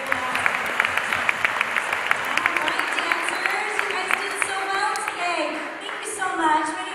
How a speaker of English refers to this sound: And so we can put another round of applause.